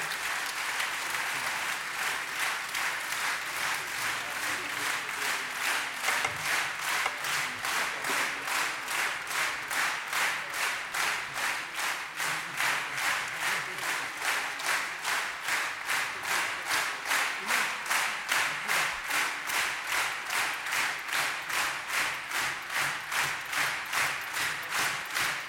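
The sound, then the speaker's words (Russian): An audience applauds musicians, the clapping quickly settling into a steady, fast rhythmic unison beat that stays loud and even for about twenty-five seconds, with no voices over it. “Поддержим наших уважаемых музыкантов аплодисментами.”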